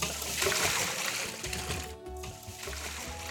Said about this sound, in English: All right, so these are done. And I'm gonna come over here and I'm gonna pour this water off of them.